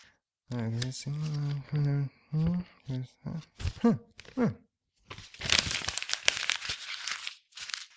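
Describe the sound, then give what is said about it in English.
A voice vocalizes for a few seconds, then a page of a script is torn and crumpled up for use as toilet paper, a loud, crackly rustling that lasts about three seconds. “Looks like I'm going to have to use a page of this script.”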